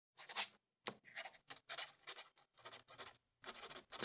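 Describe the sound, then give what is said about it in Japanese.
Pen scratching across paper in short, irregular bursts as someone fills in an application form by hand, fairly quiet, with brief pauses between strokes and no one talking. “それでは、こちらの申し込み用紙にご記入ください。”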